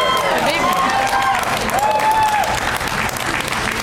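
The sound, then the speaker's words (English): A crowd breaks into steady, dense applause, with some cheering and whistling rising over the clapping. The sound stays loud and sustained for the full few seconds. “You say her name anywhere in Texas, you get a round of applause.”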